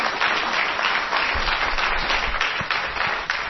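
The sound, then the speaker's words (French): A crowd applauds the Spirit of God steadily, a dense wash of many hands clapping at once, loud and sustained throughout with no voices standing out. “Fai un applauso allo Spirito di Dio.”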